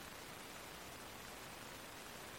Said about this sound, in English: Is it raining outside? It's raining, yeah. I thought I heard that. Yeah, it rains and then the birds shut up.